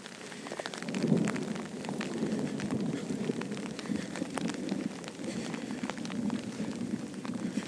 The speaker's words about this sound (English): So I've started a boo now, in the off chance that we might be able to capture some thunder sounds. We've just had quite a few big rumbles, and it's passing directly over us now. Yep. Lightning, so I'll be quiet now for a minute. Hood up. Thunder.